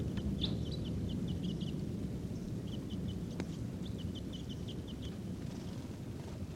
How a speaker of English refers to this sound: Birds are calling. They may take off. These are wild birds. Some of the decoys there. Wild. Wild. There they go. One bird just flew a little bit. They're still here. And they're not calling as much. There they go again. Wild birds.